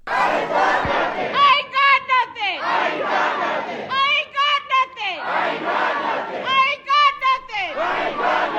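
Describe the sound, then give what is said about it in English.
Dozens of protesters carrying signs chant loudly in unison in the Aurora city council chamber during a meeting, repeating a variation on Kylan Lewis's last words in a steady rhythm every second or so, their raised voices filling the chamber. “Last night, dozens of people carried protest signs into the chamber and chanted a variation on Lewis's last words.”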